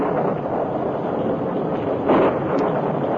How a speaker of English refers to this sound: A short time after Dan was captured and tied in the barn with Tonto, a thunderstorm accompanied by heavy rains hit the territory.